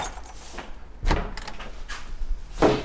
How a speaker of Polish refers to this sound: Tutaj państwo z restauracji Hades Szeroka. Wszystkie klucze mają ze sobą. Otwierają poszczególne drzwi.